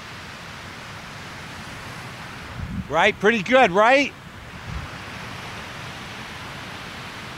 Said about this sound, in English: No music tonight. No guitar playing anyways. Why not just listen to the sound of the waves?